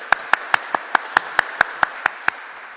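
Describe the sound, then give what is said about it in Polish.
A church audience applauds to welcome Bishop Antoni Długosz, with steady, evenly spaced claps about five per second rising over a continuous wash of crowd clapping. It is moderately loud and no one speaks. “Niech nas usłyszy, także przywitajmy księdza biskupa gorącymi oklaskami.”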